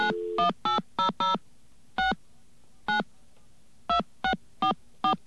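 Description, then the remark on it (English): A string of about eleven touch-tone keypad beeps dialing a toll-free 1-800 caller ID number, loud, some pressed in quick clusters and others after short pauses, with no voices. “But let's try the 1-800 my ANI is number.”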